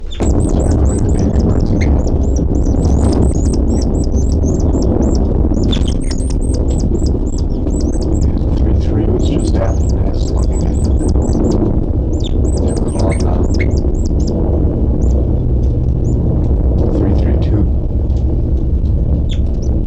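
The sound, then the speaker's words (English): Dense, high-pitched bird calls chatter almost continuously, rapid squeaky chirps in bursts over a steady low rumble, with no one speaking. The calls come from birds labelled 3-3 and occasionally 3-2-7, kept in a cell. “And nothing now except for the calls of 3-3 and occasionally 3-2-7 stuff.”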